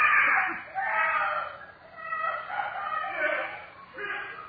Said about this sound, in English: Oh, my goodness. Somebody's calling for help. Yes, I hear them.